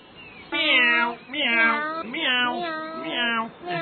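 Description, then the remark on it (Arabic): A cat, Tota, meows several times in quick succession, loud, with drawn-out, wavering cries and short gaps between them and no other sounds around. “مياو مياو مياو مياو مياو. إلى أين يا طوطة؟ مياو، سوف أذهب إلى الملعب.”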